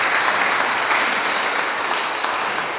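Steady applause from a crowd, a dense even patter of many hands clapping at a constant level for the whole stretch, with no voices on top.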